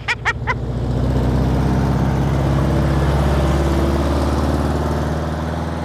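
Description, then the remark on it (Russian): Four or five wedding cars drive up, engines rumbling steadily in a low continuous drone as the vehicles roll in, preceded by three quick sharp clicks or knocks at the very start. “А кто там первый-то едет? О, 4-5 машин.”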